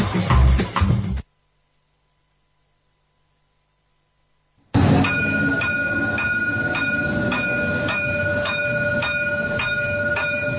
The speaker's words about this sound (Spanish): como siempre nos subimos al tranvía y hoy vamos a irnos hasta la calle Capitán Brotonsa